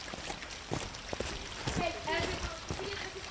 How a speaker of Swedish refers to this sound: Men det är ganska vindstilla och rätt disigt när vi närmar oss Kullens fyr. På väg via de vandringsleder som korsar Kullabergs välbesökta naturreservat är det fågelkvitter och porlande bäckar som hörs.